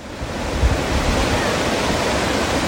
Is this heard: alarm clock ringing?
no